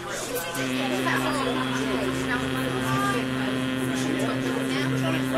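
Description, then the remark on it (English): A person hums one steady, sustained note at a low-to-mid pitch as a resonance exercise to wake themselves up. The hum starts after a brief pause and holds evenly without breaks until the end, with a buzzing, resonant tone. “So we could, for example, if I'm wanting to wake myself up, I'd start by doing a little bit of humming.”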